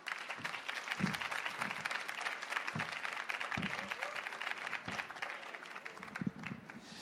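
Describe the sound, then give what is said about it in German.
An audience claps steadily and loudly for several seconds in big, frenetic applause welcoming an author about to present his book, a dense wash of many hands with a few louder individual claps standing out. “Begrüßt mit einem ganz großen, frenetischen Applaus”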